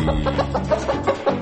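A chicken clucks in a quick, choppy series of short bursts, fairly loud, with no talking over it.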